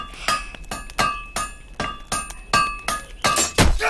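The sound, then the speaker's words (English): A hammer strikes metal in a steady rhythm, forging pieces of bent metal to make a shield: about nine bright clinks with a short metallic ring after each, the last few coming quicker and louder. No voices. “You have to forge 8 pieces of bent metal.”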